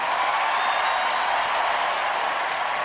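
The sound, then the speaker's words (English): A huge crowd at the Democratic Convention in Denver cheers and applauds without a break after Ted Kennedy's address, the dense clapping and roar holding loud and steady with no voice standing out above it. “Cheers and tears at the Democratic Convention in Denver last night, hearing Ted Kennedy in kind of a valedictory address intone those words.”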